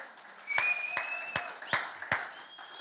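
A crowd claps hands together in praise to God, in a steady rhythm, sharp unison claps landing about twice a second over a softer wash of scattered clapping, with no voices standing out.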